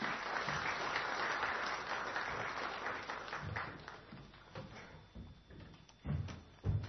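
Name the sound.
audience round of applause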